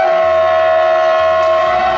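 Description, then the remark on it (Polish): A loud, steady train horn blares, one unbroken chord-like tone held for about two seconds with a low rumble underneath and no voices, sounded by a Koleje Mazowieckie train driver near homes by the tracks in Masovia, Poland, as required by regulations for safety. “Dlaczego pociągi trąbią w nocy?”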